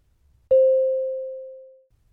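A single beep cue tone rings out alone: a steady mid-pitched note that starts sharply, then slowly fades away over about a second and a half, with no voices around it.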